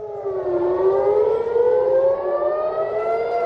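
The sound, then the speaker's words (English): A loud air raid siren wails continuously across the border town of Nahariya in northern Israel, its tone sliding slowly down and then rising again, with no voices and no other sounds alongside it. “A residential building in northern Israel was hit by a projectile on Monday after air raid sirens blared across the border town of Nahariya.”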